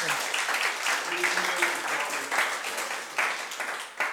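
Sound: audience clapping hands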